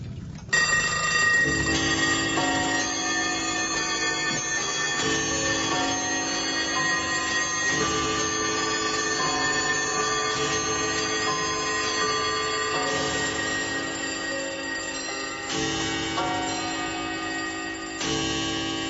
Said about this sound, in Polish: czy u pana też taką symfonię zegarów grających można usłyszeć? Można.